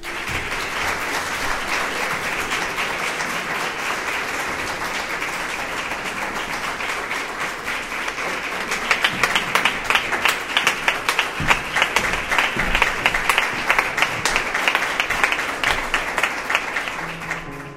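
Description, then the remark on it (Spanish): Sustained applause from an audience for two local professionals as the second part of the event opens, a dense wash of clapping that stays loud throughout and grows more rhythmic and accented in the second half, with no talking over it. “Vamos a abrir esa segunda parte y para eso vamos a dar un fortísimo aplauso a ellos,”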